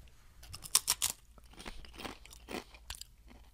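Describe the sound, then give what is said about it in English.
Crisp crunching of a triangular tortilla chip that looks like a Dorito, eaten during a chip-guessing tasting: a few sharp bites early on, then softer, irregular chewing crackles fading over several seconds, with no talking. “So first chip. It's a triangle. Looks like a Dorito by its look.”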